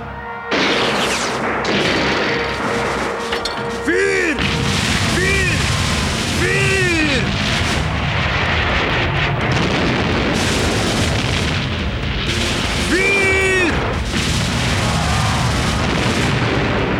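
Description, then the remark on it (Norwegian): Dense, loud battle din of cannon fire from sailing ships and explosions at Jamestown as Indians attack, rumbling almost without pause, with scattered shouting voices rising and falling through the chaos. “Bemann kanonene! Lad løpene!”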